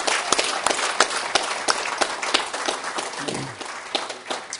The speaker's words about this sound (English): By the way, let's give the Lighthouse Bible Church a nice round of applause for a great buffet this afternoon. Thank you very much.